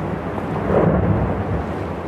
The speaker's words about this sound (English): And we were very lucky as we got up to this glacier. Whole sections of the glacier face just fell away into the sea. Huge waves now rocking the boat. There's more.